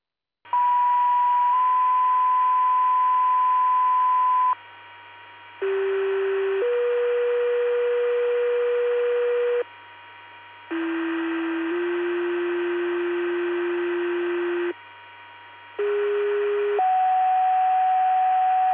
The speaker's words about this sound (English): This is your weekly pager test, testing for Dozal, Spring Valley, and Peru Fire Department. Please disregard the tones, reset your pagers, and the test will come clear at 2002.